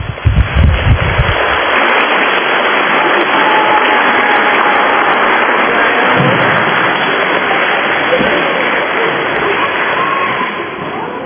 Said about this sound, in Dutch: Mag ik nog een heel hard applaus?